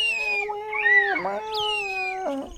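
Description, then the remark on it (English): A voice imitates hungry baby birds crying for food: a sustained, high, nasal whine that wavers and dips in pitch, with two brief breaks before trailing off. “They're starting to cry for food. They're doing that little kind of bird thing.”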